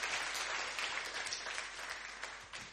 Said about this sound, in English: Give another big hand clap to the worship team.